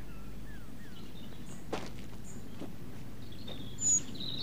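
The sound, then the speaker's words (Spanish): A great tit, half hidden among leaves, gives a few faint, thin, high-pitched furtive alarm calls to its family, with one brief sharper whistle near the end, over a low outdoor rumble and a soft thump or rustle. “Medio oculto entre las hojas, envía continuas señales furtivas a su familia. Pero todas las aves del vecindario se enteran del mensaje.”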